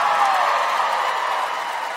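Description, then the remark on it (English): An audience applauds in a steady, dense wash of clapping that holds at an even level for about two seconds before easing slightly toward the end. “Oh, you're applauding that.”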